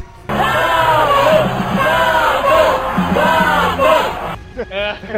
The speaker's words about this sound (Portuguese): Naquele momento que você para, todo mundo para e começa a gritar Satã.